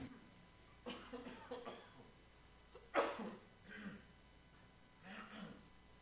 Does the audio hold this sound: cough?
yes